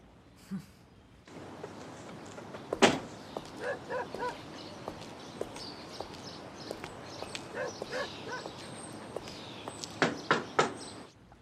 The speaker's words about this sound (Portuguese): Ah, é que ficam batendo toda hora na porta. Eu vou lá.